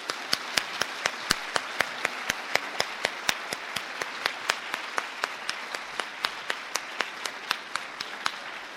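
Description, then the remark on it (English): An audience at an evening discussion applauds Laurel Thatcher Ulrich steadily for several seconds, a dense wash of clapping with a few sharp claps standing out at a regular pace, no voices over it. “Let's give her one more round of applause.”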